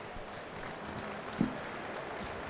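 An audience claps in a steady, dense round of applause that holds at an even level the whole time, with one brief louder accent midway and no voices.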